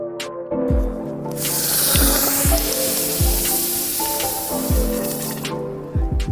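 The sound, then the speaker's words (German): A hot basalt stone of about 1.5 to 2 kilograms, taken from a fire and plunged into brewing wort on a home-brewing day, gives a loud, continuous hissing sizzle that swells and lasts about five seconds, over a steady rhythmic music beat with low tones. “So klingt es, wenn man einen, ich würde mal sagen, 1,5-2 Kilo Basaltstein aus dem Feuer in die Würze steckt.”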